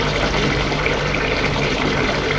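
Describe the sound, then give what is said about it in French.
A steady stream of water runs from a bathroom sink tap as a man drinks straight from it, a continuous hiss and splash that holds evenly for the whole stretch with no voices. “Boit l'eau à même le robinet.”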